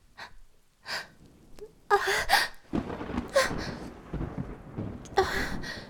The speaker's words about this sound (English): That thunder, it scares me. Just give me something else to think about. Distract me. Don't let the thunder get to me.